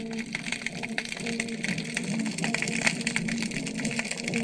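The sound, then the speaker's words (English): Dense, continuous crackling of inch-long snapping shrimp snapping their one enlarged claw at about 6:20 p.m., a fizzing texture of countless tiny sharp clicks like frying bacon, with a low steady hum from distant toadfish vibrating their air bladders droning underneath throughout. “You hear the crackling sound. Those are snapping shrimp.”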